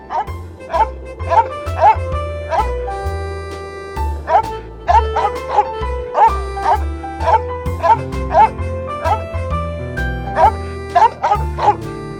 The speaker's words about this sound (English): Snowball starts to bark at Cole. He doesn't like cats.